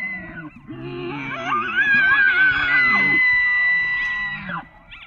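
A National Park Service recording of an elk bugling, a call elk make in the fall: a deep, rough bellow rises into a long, high, piercing whistle that holds for several seconds before cutting off. Loud and alone, with no talking.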